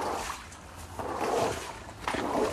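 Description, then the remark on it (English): A broom sweeps floodwater out of a flooded garage at a house in Brisbane after a storm, in a few swishing, splashy strokes, steady, with water sloshing between pushes and no one talking. “sweeping out water from their flooded garage at their house in Brisbane.”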